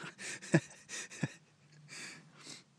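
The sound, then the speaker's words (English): A girl or woman snoring softly inside a tent while camping: a series of raspy, breathy inhales and exhales in an uneven rhythm, a couple with a rougher, throaty rattle, with no talking. “And my daughter snoring.”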